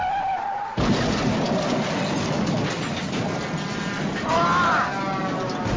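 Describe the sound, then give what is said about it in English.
A car crash: a brief tonal whine cuts into a sudden loud impact, then a sustained rough, grinding noise with a high metallic squeal near the end. No one speaks. “So you just crashed.”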